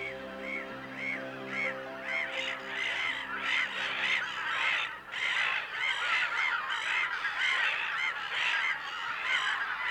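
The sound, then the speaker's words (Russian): A large flock of geese and ducks calling continuously on an uninhabited island in late July, dense overlapping honks and quacks repeating rapidly for the whole stretch, loud with no voices. “Тут гнездятся тысячи уток, гусей, лебедей, гагар, всевозможных куликов.”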